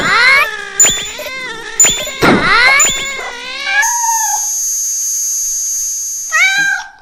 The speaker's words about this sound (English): This is not translated, and it's still playing that cat noise.